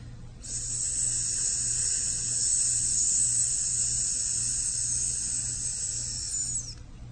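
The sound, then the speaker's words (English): A single long, steady "sss" hiss voiced as a chanted mantra, thin and high like a delicate whistle, held evenly for about six seconds over a faint low hum. “And last, but not least, we have to chant the mantra S, like a very delicate whistle.”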